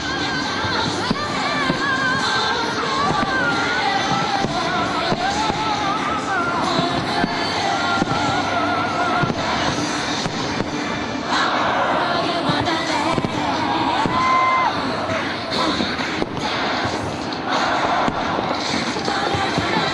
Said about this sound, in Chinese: 伴随在悉尼歌剧院的交响乐声中，9点钟的小型烟花预演让久久等候的观众们开始兴奋起来。